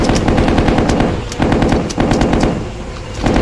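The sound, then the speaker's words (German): Loud, rapid video game machine gun fire rattles almost nonstop in long sustained bursts, with only brief breaks between volleys and no voices over it. “Machine gun.”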